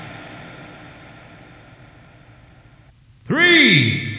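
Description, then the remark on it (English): A low, steady rumble of race car engines idling at the start of a race sounds in the background for about three seconds, then a loud voice cuts in over it near the end. “Ladies and gentlemen, start your engines!”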